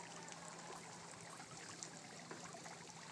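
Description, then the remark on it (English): A small waterfall trickles steadily into a swimming pool near the sea and beach on a sunny day in Mauritius, making a soft, continuous splashing and bubbling wash, with no voices. “And behind me there's the swimming pool and a little waterfall we should be able to hear.”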